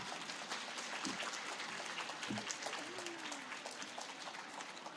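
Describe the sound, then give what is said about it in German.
Steady audience applause at a book reading, welcoming the author of the new Pferdeflüsterer Akademie horse-riding book series; a dense wash of many hands clapping at moderate volume with a few louder individual claps and a faint whoop or voice rising briefly through it. “Und jetzt erzähle ich euch gar nicht mehr, sondern ich bitte euch um einen donnerhufenstarken Applaus”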